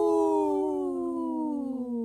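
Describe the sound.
A single long, loud howl with a rich, steady tone that slowly slides downward in pitch over about two seconds, heard on its own with no talking.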